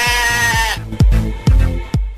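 A single wavering sheep bleat rings out loud for under a second, then gives way to a few heavy, evenly spaced drum-like thumps.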